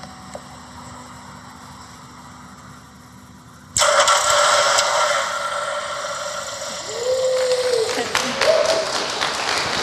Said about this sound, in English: And this triggers a Lambda function locally on the Pi, and I wrote that in Python, and that turns on the relay board, which is connected to the starter motor, which then starts the car. So, let's have a go.